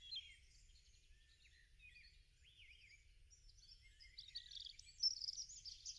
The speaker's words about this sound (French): Tu entends le gazouillis des oiseaux.